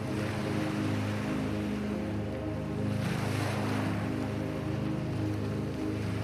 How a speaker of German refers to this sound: Du sitzt an einem der weiten Sandstrände der Insel und blickst auf das ruhige Meer hinaus.